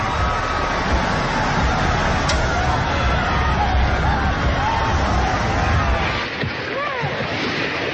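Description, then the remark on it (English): A loud, steady roar of tsunami floodwater surging through streets near the capital Nuku'alofa, Tonga, rushes on without pause, with faint shouts and voices mixed underneath; the low rumble thins slightly near the end. “They record the tsunami as it surges through streets near the capital Nuku'alofa.”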